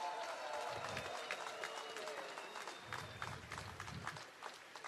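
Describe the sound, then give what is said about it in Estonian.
A crowd at a rally, people from various parts of Estonia including Võrumaa, claps and cheers continuously for those who came from far away, a dense wash of applause with scattered sharp claps and murmuring voices throughout, steady and fairly loud from start to finish. “Teeme täna ühe suure aplausi kõigile neile, kes tulid väga kaugelt täna siia, et avaldada oma meelt, oma südant.”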